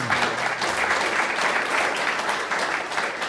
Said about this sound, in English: That Norway deserves a huge cheer for that kind of leadership.